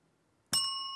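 A single bright quiz ring-in bell ding strikes suddenly after near silence, then rings on with a sustained metallic tone that fades only slightly, loud.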